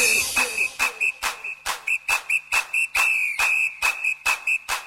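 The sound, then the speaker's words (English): A shrill, steady whistle tone sounds nearly the whole time, loud, over a fast, regular thumping beat of sharp percussive hits. “Blow my whistle, bitch.”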